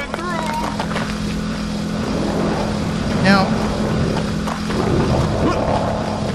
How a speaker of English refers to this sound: Now, there's the moped. Now, this is the street, and you want to cross this rather quickly, or else the moped will come and hit you.